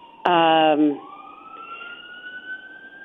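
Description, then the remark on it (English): A fire engine's loud, brassy horn blast cuts in, then its siren wails upward and holds steady, heard outside through an open window in Seattle, from a fire station just down the street. “So I have to just wait for the sirens to subside.”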